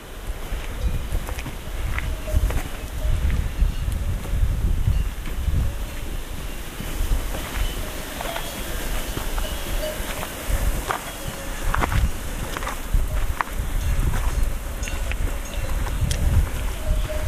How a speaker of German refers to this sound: dann hört man diese wunderbaren Kuhglocken. Es gibt Wasserfälle. Also die Geräuschkulisse dort ist wirklich einmalig.